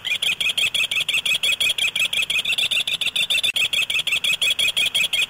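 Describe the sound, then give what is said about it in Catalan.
A little owl calls in a fast, steady series of sharp, high-pitched notes, about five a second, loud with no other sounds. “El mussol comú és un ocell rapinyaire, menja ratolins, viu als boscos i és molt més petit que el duc.”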